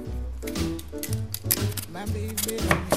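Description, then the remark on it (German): Short, scratchy scraping strokes of a peeler peeling sweet potato in a kitchen repeat at an uneven pace, partly buried under steady background music. “Und Süßkartoffel schälen.”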